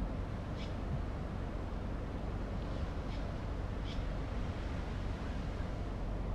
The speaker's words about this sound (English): Just drove down to one of the local beaches in this town I drive in, and just watching the waves, listening to them. I'm gonna wind my window down and see if you guys can hear them.